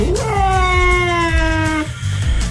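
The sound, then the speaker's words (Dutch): A domestic cat lets out a long, loud, drawn-out yowl that holds steady and then breaks off as two house cats that hate each other meet, over a low rumbling background. “Ja, omdat je die dus echt, als die bij elkaar zijn, dan is het letterlijk, dit is van vanmorgen.”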